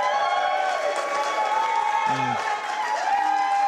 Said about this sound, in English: can I hear a big cheer now? Let's go!